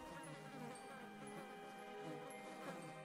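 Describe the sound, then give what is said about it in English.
Flies buzzing in a steady, continuous drone with a thin harmonic whine, fairly faint and unbroken for the few seconds, with no voices. “In place of the loud chorus of crickets and frogs and birds, she could only hear the howling wind and the eerie buzzing of flies.”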